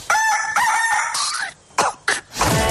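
A rooster crows loudly in one long, drawn-out call with a bright harmonic tone, followed by a few short, sharp bursts of sound.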